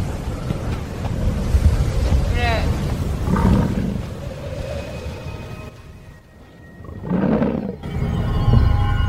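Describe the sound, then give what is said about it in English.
Howling wind of a sudden spring blizzard roars steadily throughout, a loud, dense rush that dips briefly near the end, with a couple of deep animal bellows rising over it. “Even in spring, winds chill to the bone.”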